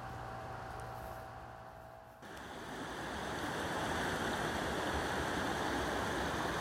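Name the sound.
river water flowing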